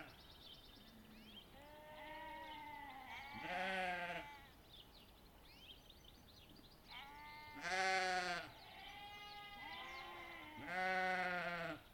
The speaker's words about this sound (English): Funny how you can identify each sheep by its call. Totally different timbre from each animal.